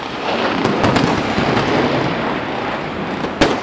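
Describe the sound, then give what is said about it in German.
A dense, continuous roar of crackling blasts and rumbling noise, punctuated by sharp, loud bangs at irregular intervals: pyrotechnic explosions and special effects in a staged battle show before packed stands, with soldiers exchanging fire, tanks crossing the ground and vehicles exploding on a battlefield set signposted Mount Papakura. “Doch von den Explosionen und Spezialeffekten lässt sich hier niemand zurückhalten.”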